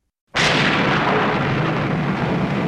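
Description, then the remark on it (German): A loud crack of thunder from a severe thunderstorm over Melbourne, Australia, on 21 November 2016 bursts out of silence and rolls into a sustained, roaring rumble that stays heavy for a couple of seconds, with no voices present. “Es ist ein heftiges Gewitter, das am 21. November 2016 über die australische Metropole Melbourne zieht.”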